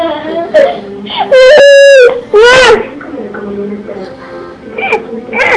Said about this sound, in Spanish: El nene grita, grita y sigue gritando.